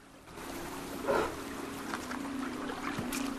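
fast-flowing river water

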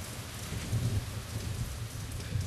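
pouring rain

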